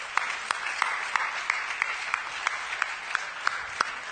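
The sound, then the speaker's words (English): Church audience applause as a show of testimony of God doing the supernatural in their lives: a dense, steady wash of clapping with a few sharper individual claps cutting through at an even, brisk rhythm. No voices are heard. “If you have a testimony of God doing, can you just buy a show of applause?”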